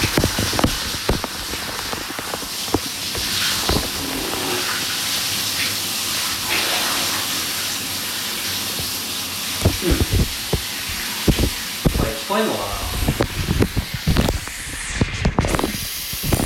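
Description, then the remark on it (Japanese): Running water from a shower sprays and splashes steadily, a broad hissing wash broken by irregular patters and thumps as the flow hits surfaces, continuing throughout with no speech. “水の音がパタパタして何も聞こえないんじゃね？”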